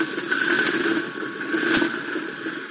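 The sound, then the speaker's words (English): A C-47 aircraft's number 2 propeller engine starts and roars in a steady, unbroken drone, fairly loud, with a constant low hum and a buzzing upper tone throughout, and no voices. “Number 2 engine joined its partner's roaring.”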